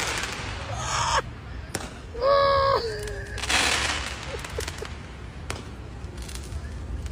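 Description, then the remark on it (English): Fireworks being shot outdoors towards the Trump building: sharp cracks and pops, a bright rising whistle, then a crackling burst, with a noisy crowd-like wash underneath throughout. “People are shooting fireworks towards the Trump building.”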